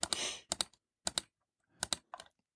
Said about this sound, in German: Ich kann nicht nur hören, wo du klickst, sondern ich sehe es jetzt auch noch, weil du es in dem Google Sheet machst.